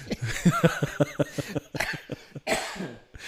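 A couple of loud, harsh coughs burst out into a microphone, breathy and rough, following a moment of short murmured vocal sounds.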